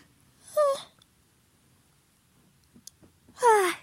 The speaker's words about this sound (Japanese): お酒飲むと体温上がるから本当に眠くなる。あくびしちゃった。ごめんなさい。